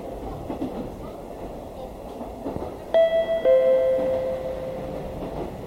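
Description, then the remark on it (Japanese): A train pulling into Mizuno station in Japan: a steady low rumble of the carriage, then a clear two-note electronic chime rings out partway through and sustains briefly before fading under the running noise. “水野、水野です。ホームと電車の間が空いています。足元にご注意ください。”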